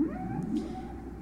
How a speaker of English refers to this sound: I'm gonna leave you with some of that. Whale's a better singer than I am.